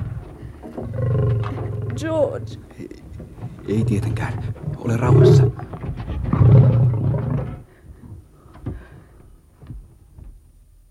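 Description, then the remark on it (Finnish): Lions roar loudly in several deep, rumbling, powerful bursts over about seven seconds as they try to break through a door, while a few people speak briefly over and between the roars. “Pystyvätkö leijonat murtamaan oven? Pääsevätkö ne tänne?”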